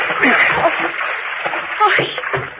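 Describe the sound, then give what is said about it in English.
Continuous splashing and sloshing of water as a woman goes over the side of a boat into the water, a steady wash of churning noise lasting a couple of seconds, with faint voice sounds mixed underneath. “You must be freezing in that water.”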